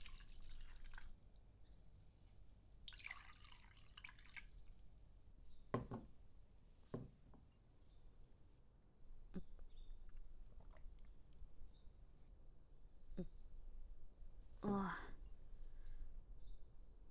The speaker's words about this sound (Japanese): ああ、雨か。